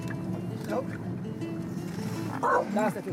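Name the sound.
dog barking and whimpering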